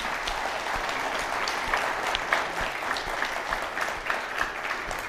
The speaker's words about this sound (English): And so, moms, we honor you. How about just a round of applause for the moms that are here?